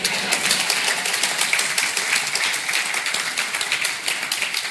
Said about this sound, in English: Yes, she deserves the applause.